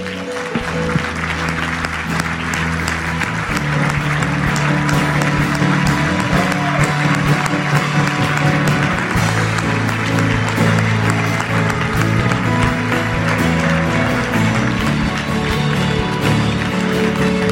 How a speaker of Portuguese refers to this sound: Você pode mostrar para mim que você está feliz, glorificando o nosso Deus com uma salva de palmas?